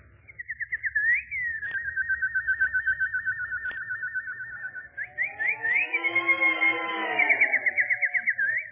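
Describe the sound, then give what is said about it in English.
A nightingale singing: a steady, high warbling trill with rapid pulsing notes, turning into a fuller, layered burst of song partway through. No one talks. “Emperor, look. Death has gone. A little nightingale.”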